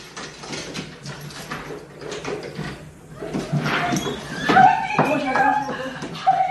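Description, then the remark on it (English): A dog standing on its hind legs paws and scratches at a glass front door as its owner, an astronaut returning home after 328 days on the International Space Station, comes up the walk, making repeated rattling thumps that grow busier, with a few high excited whines and muffled voices in the background. “As mom comes up the walk, her dog stands on its hind legs, wags its tail furiously, and paws at the glass front door.”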